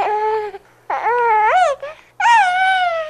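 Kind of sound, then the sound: sound effect, baby crying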